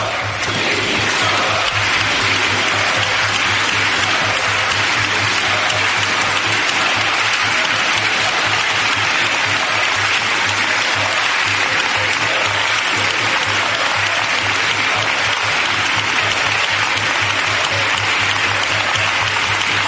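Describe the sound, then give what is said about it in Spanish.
A sustained ovation in parliament from the PSOE, Podemos and the whole government, applauding Ábalos: many hands clapping at once, a dense, steady roar of applause that holds at a constant loud level for the full twenty seconds with no voices breaking through. “Ovación de todo el PSOE, de Podemos, de todo el gobierno, con Ábalos de pie, sonriendo mientras le aplaudían los suyos.”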